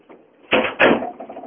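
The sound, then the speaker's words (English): A door swings shut with two quick, solid knocks close together, fairly loud, over a faint low background hum. “Close the door.”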